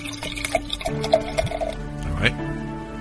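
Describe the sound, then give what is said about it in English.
About 8 ounces of beer pours steadily into a measuring cup, a continuous trickling and gurgling fill lasting a few seconds, with some faint background voice-like sounds. “I'm going to open that beer I told you to buy. In a measuring cup, I want you to pour 8 ounces.”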